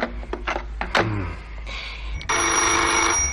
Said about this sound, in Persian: تلفن اتاق 113 زنگ می‌خورد.